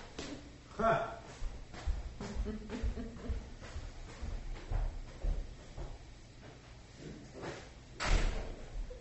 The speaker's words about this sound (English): My dog just opened the door. That's pretty amazing.